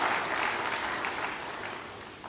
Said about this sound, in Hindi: तो जोरदार तालियों से भी आपका भी स्वागत है, स्वागत है, स्वागत है।